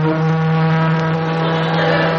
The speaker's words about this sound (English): Pertwee, quick, start sounding the siren.